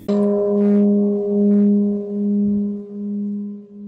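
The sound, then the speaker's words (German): A freshly finished clay jug, struck to test how it sounds, rings out like a bell, holding a steady low hum with bright overtones that swell and fade gently over several seconds, with no voices. “Prächtig! Wie eine Glocke so schön!”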